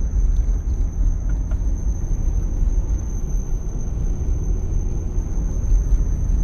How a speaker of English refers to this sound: So my car is driving.